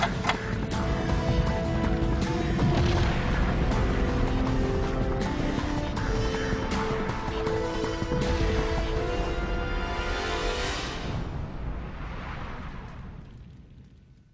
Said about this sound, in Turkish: Kur'an'da anlatılanlara uygun olarak kıyamet gününde dünyanın her yerinde buna benzer patlamaların olması ihtimali oldukça yüksektir.